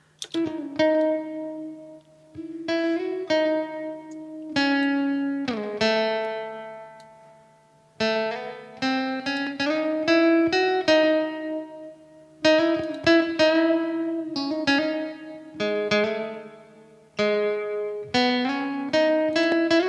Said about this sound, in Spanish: Pues ahora vamos a escuchar nada más la diferencia con y sin un poquito de reverb.